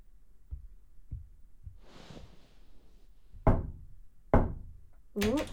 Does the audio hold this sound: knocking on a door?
yes